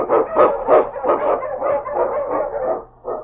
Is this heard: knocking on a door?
no